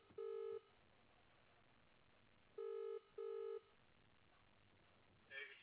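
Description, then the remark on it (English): A phone call rings through the earpiece: a single electronic ring, a pause, then a quick double ring, the tones steady and buzzy, followed by a faint click near the end as the call goes straight to an answering machine. No one speaks. “I'll just quickly call him and ask. Straight went in my answering machine, so.”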